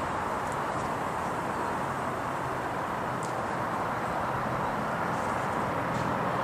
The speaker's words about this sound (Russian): Железная дорога. Какая? Железную дорогу мы проезжали. Что мы нет, ну это шум автомобильный, это не шум железной дороги. Ну, улица, наверное.